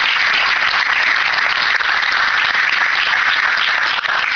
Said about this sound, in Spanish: Y les quiero agradecer a ellos y les pido un aplauso también para ellos, para la gente de Repagos.